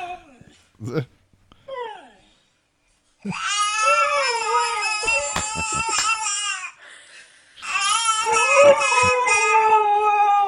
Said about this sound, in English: Here's a husky that there's a baby in the house, and it sure seems to me like the dog is imitating the baby.